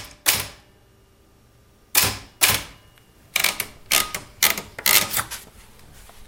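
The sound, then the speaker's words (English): Crisp mechanical typewriter keystrokes on old paper, fairly loud, as a man types a poem on a typewriter sitting on a little kitchen table; an isolated strike, then a pause and a steadier run of clacks in an uneven rhythm, with no voices. “And I have this whole case of old paper that I ask if I can record the sound of him typing.”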